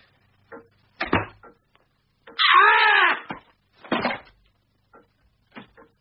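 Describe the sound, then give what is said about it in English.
Scattered knocks on a wooden door, irregular and moderately loud, with a long wavering high-pitched cry rising between them partway through. “What now? I heard a knock.”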